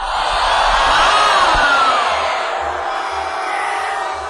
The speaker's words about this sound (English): And he said he had the option of love them or leave them. And he said, leave them. And the crowd went bananas.